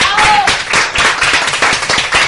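Steady audience applause, many overlapping hand claps forming a dense, bright crackle that stays loud and even throughout, with a brief faint voice at the start.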